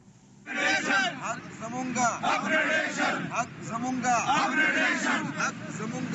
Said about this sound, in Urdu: یہ قبائلی علاقوں کے ان سینکڑوں اساتذہ کے نعرے ہیں جنہوں نے پچھلے 14 دنوں سے اسلام آباد پریس کلب کے سامنے دھرنا دے رکھا ہے.